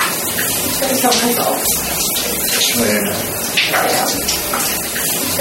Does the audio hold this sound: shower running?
yes